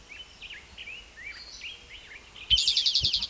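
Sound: bird call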